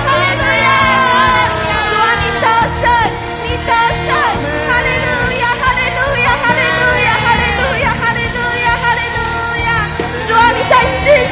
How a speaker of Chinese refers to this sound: 主啊，我们要大声欢呼，哈利路亚。